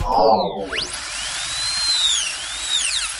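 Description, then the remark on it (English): A high-pitched dentist's drill whines, its pitch sweeping up and down as it revs and slows, with a brief low rumble at the start and no talking. “That's a sound that inspires fear around the world, the dentist's drill.”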